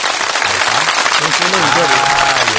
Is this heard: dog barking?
no